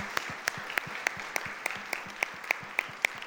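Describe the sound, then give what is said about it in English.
An audience at the Columbus Metro Club Forum applauds the new official home of the Columbus Metropolitan Club, giving a steady wash of clapping with sharper, evenly spaced claps standing out above it. Quite soft overall, with no voices heard. “And how about a round of applause for this beautiful new official home for the Columbus Metropolitan Club?”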